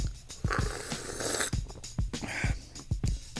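A domestic cat named Pippa purrs while walking on a person, a low rhythmic rumble pulsing steadily about twice a second, with some soft rustling and no talking.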